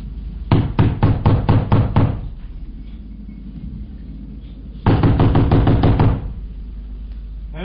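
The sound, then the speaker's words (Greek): Two bursts of loud, rapid knocking on a door by police, each about eight heavy blows in quick succession, separated by a few seconds of quiet hum. “Νόμου, ανοίξτε! Ποιοι είστε? Αστυνομία! Άνοιξε ή σπάζω την πόρτα!”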